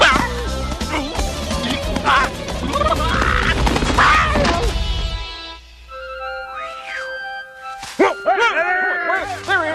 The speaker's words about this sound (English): Dog that the police warned us about. There he is.